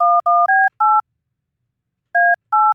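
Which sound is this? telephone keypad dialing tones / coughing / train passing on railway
telephone keypad dialing tones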